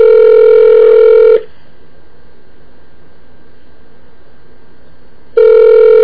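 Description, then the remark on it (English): A phone call to a tour location three hours behind rings out: a loud, steady electronic ringing tone sounds, stops for about four seconds of near silence, then starts again with no answer. No one speaks. “many rings do you think we should give it?”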